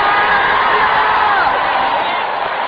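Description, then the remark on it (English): A large church audience roars with sustained shouting and cheering, loud and dense, a continuous wall of overlapping voices with scattered whoops, filling the whole moment without a break. “Come on, let the church scream.”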